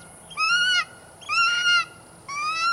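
golden eagle call

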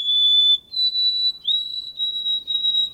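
white-throated sparrow whistled song

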